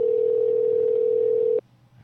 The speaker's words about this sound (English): Well, that was the phone ringing at the post office waiting for...